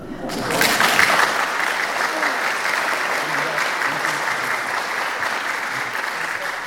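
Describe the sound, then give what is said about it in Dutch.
Sustained applause from an audience before an hour-long music performance, a dense, steady wash of many hands clapping that swells in quickly and holds at a fairly loud level throughout, with no voices standing out. “Dus als u een applaus wilt geven, moet je het eigenlijk nu alvast doen.”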